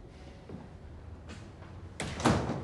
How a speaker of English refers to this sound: Now at the program gallery. Gordon enters, closing the door behind him, and peruses some of Grace's abstract artwork on the wall.